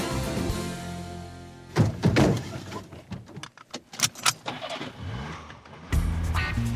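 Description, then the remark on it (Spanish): Car sounds: a steady engine hum, then clunks and a jangle of keys, before an engine turns over and roars louder as it accelerates. No one speaks. “Bueno, esta vez me parece bien ir en coche. Sí, hombre, se puede ir en coche.”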